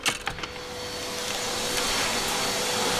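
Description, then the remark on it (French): A woman is vacuuming; the vacuum cleaner drones steadily, a loud continuous whirring hum that holds level throughout after a few short clicks and bumps at the very start. “Bonjour madame, vous passez l'aspirateur, je peux vous poser une question?”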